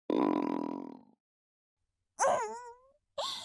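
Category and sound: human body sound, stomach gurgling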